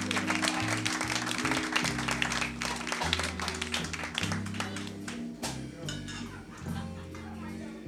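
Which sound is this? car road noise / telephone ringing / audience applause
audience applause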